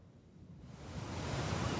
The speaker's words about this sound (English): Waves lap at the base of white chalk cliffs.